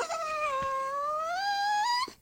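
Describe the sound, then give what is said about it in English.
A dog gives a single drawn-out whine lasting about two seconds, its pitch dipping and then slowly rising before it cuts off. It is fairly loud, with no talking over it. “I got something the dog would like to say before we get started.”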